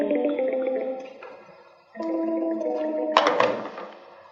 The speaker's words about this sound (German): Und der Benutzer ruft die 2003 an, die auf dem SNOM-Telefon angemeldet ist. So, das normale SNOM-Blubbern.